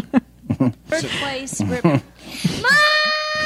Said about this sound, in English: So stupid. So dumb. What an annoying contest to have. So annoying. Isn't it bad enough to have kids screaming at you like that, and there's a contest encouraging that shit?